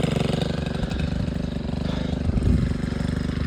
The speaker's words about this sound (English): His friend came through with a bulldozer, digging into the ground to create a fire break. You can hear that here.